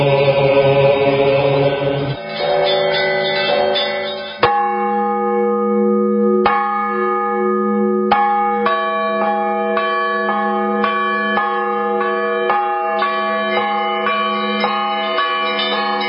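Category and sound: signal or alarm, easter church bells ringing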